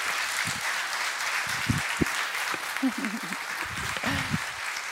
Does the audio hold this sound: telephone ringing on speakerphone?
no